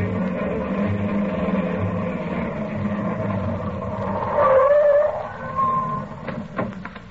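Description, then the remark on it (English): A car engine rumbles steadily, swells as the car pulls up by a hospital's ambulance entrance, then settles as it comes to a stop there, followed by a few sharp mechanical clicks. “I'll leave the car right here by the ambulance entrance, Molly.”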